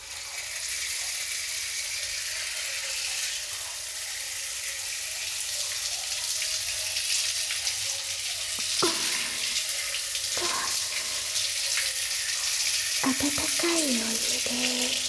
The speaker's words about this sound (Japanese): シャワーで流しますわ。